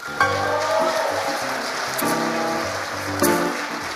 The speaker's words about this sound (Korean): 박수 한번 해주시죠.